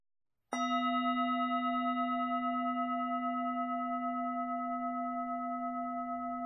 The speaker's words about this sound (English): Welcome to this body scan practice. We will begin and end the practice with the sound of the bell.